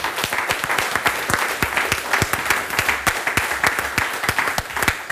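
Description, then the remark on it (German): An audience applauds the speakers steadily, dense overlapping claps forming a loud, continuous wash of sound with no talking. “Ich bedanke mich bei den Vortragenden und bitte vielleicht jetzt um einen tosenden Applaus,”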